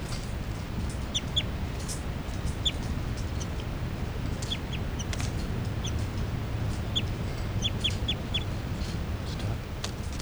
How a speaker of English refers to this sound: Pointing at these birds again, that's 3-3 chitter. 3, 3, and the new juveniles are giving calls here, flight calls.